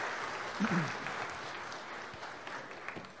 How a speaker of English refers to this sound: Let's give Mark another round of applause.